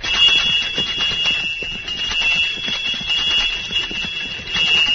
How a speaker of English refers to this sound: Now I'll ring the bells and attract a little attention.